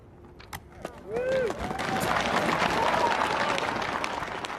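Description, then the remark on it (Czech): A large audience bursts into loud, sustained applause after a brief quiet moment, with a few whoops and cheers, for young poet Amanda Gorman's poem The Hill We Climb at the January inauguration of US President Joe Biden. “Takový potlesk sklidila mladá básnička Amanda Gorman a její báseň The Hill We Climb na lednové inauguraci prezidenta Spojených států amerických Joe Bidena.”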